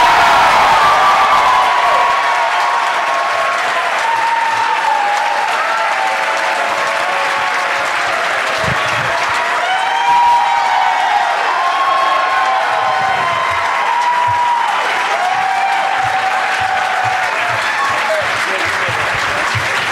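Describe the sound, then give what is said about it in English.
Sustained audience applause welcoming guests Todd Glass, Chip Chantry and Mark Otter Wahlberg to the stage fills the whole stretch, steady and loud, with scattered cheers and a few whoops rising over the dense clapping and crowd noise. “I've got three lovely gentlemen coming to the stage, so please give a big, warm, good night's welcome to to Todd Glass, Chip Chantry, and Mark Otter Wahlberg.”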